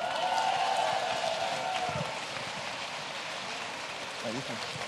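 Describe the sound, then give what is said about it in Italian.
An audience applauds in a steady, dense wash of clapping that holds throughout, a little fuller at first, while a voice speaks briefly over it near the start and again at the end. “diamo un applauso a Cecilia Di Lieto”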